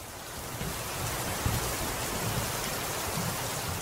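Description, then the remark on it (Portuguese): Steady rain pours onto the sea, heard from the veranda of an inn, a dense, continuous hiss with a soft low rumble underneath, holding at an even, moderate level throughout without any voices. “Então, vamos ficar aqui mesmo na varanda da pousada, vendo esse espetáculo de chuva caindo no mar, enquanto a gente conversa.”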